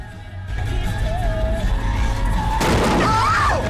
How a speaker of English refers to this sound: As Finn's vehicle emerges from the alley, it slams into someone and knocks them over the car.